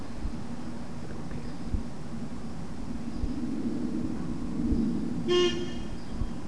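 A single short car horn toot sounds out over a steady rumble of passing traffic, brief, with no one talking.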